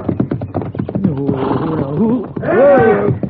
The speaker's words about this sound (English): Yeah. Well, that horse is stomping him.